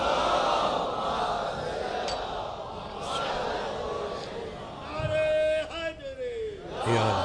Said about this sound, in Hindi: इतनी आहिस्ता सलवात नहीं, जनाब मुस्लिम के नाम पे बड़ी आवाज से सलवात पढ़ो।